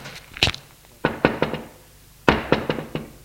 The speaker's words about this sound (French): Il monte jusqu'au 5e. Il va frapper à la porte de l'appartement.